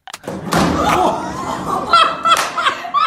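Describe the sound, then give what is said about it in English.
A hard, heavy, loud thud of a man walking into a door he didn't see, followed by a long burst of laughter from people. “I just want to play that boom, that bang again, because listen to how loudly and how hard he hits this door.”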